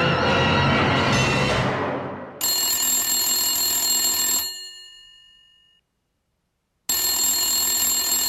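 A telephone rings loudly: a bright, jangling bell burst that fades into silence, then starts ringing again, following a brief rushing noise at the start, before the call goes to voicemail. No one speaks.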